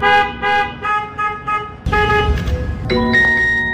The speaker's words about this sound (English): We just want the Waymos to stop beeping at night.